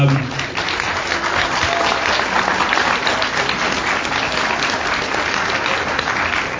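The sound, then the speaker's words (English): Sustained applause from a large audience, a dense wash of clapping that stays steady and loud throughout, with faint crowd murmur mixed in. “We want to see our guys to perform for York, and we want, I think it's absolutely brilliant that, and I think he deserves a massive rap and round of applause for him here tonight, that Abzi's going to be away with the under-23s in Olympic qualifying.”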